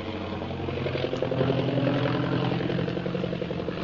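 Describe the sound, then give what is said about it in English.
A plane flies over the city of Shanghai, circling in thick fog. Its engine gives a steady, droning roar that continues throughout, with a low harmonic hum that swells slightly in the middle before holding level. No voices are present. “Meanwhile, Shanghai Lil's plane carrying Jungle Jim and Kolo zooms over the city of Shanghai, circling around in the impenetrable fog.”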